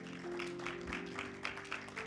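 A crowd applauds, a steady dense patter of clapping that holds at an even level for about two seconds, with a low sustained hum running underneath.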